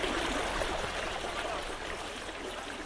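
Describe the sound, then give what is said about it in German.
Steady rushing and trickling water fills the scene, a continuous splashing wash as a boat carried in a rail-mounted cradle on an inclined plane of the Oberland Canal slowly re-enters the canal water, with no voices. “Wir tauchen auf unserem Förderkorb langsam wieder ins Wasser.”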